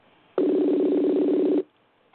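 A single sustained burst of telephone ringback tone as someone phones a woman back after losing her on the line, a steady, buzzy low purr lasting just over a second, loud and alone with no voices, then cutting off into quiet.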